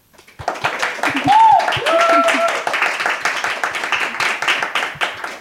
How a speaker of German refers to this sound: Und ich fand, als PanalistInnen haben einen großen Applaus verdient.